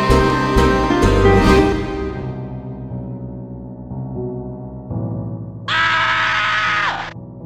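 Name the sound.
man screaming in fright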